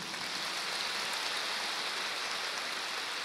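A crowd claps in a dense, steady wash of applause that holds at an even level for a few seconds, with no voices over it.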